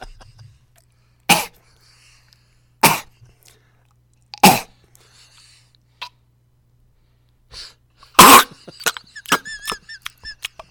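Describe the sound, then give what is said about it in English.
A voice imitates a dog hocking up a loogie, ASMR style: three sharp, raspy coughing bursts at even intervals, then a harsher hacking burst followed by wet, squeaky gurgles and smacks, with no talking. “And I was like, how about dog hocking up a loogie ASMR?”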